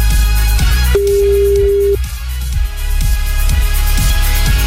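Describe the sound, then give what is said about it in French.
A single steady electronic telephone ring, about a second long, sounds over rhythmic background music with a driving beat during a French morning radio show's call-in game. No one speaks. “Attention, le téléphone sonne, c'est peut-être le vôtre.”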